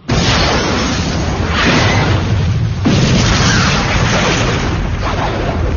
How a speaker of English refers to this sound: A roiling gout of flame washed over what little remained of the Hercules, and then the airplane simply vanished in yet another strident detonation of ancient ordnance, the windows finally shattering, the propellers spinning madly away.